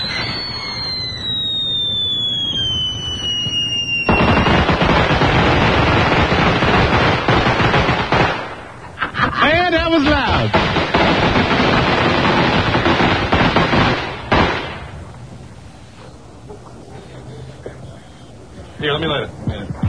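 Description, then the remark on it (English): Fireworks set off by a quick-burning fuse, one lighting another, go off: a shrill whistle slides downward, then a long, loud barrage of rapid crackling bursts and pops rattles on for about ten seconds before fading to scattered crackles. “One of them lit the other one. Oh, cool. I love this. God damn, it's great. It's too quick. The fuse is too quick.”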